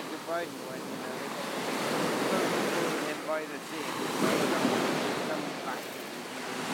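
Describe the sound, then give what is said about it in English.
Waves wash onto a beach about 200 metres below Taormina in a steady roar of surf that swells and recedes twice, reaching the water's edge, with gusty wind buffeting the microphone throughout. “I'm standing on the beach, 200 odd metres below Taormina, at just the point where the water comes up to and then stops, except every now and again, every sort of 20th one hits my feet”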